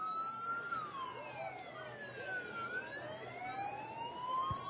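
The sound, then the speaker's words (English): The siren of a DARE police car wails steadily, its pitch sweeping slowly down and then back up, over a low rumble of traffic and outdoor crowd noise. “We got the DARE car who's daring to have their siren going on right now.”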